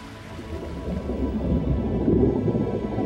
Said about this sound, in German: Badeurlaub am Jurameer. In 150 Millionen Jahren steht ungefähr hier der Dom von Eichstätt. Jetzt plätschern die Wellen in einem subtropischen Paradies.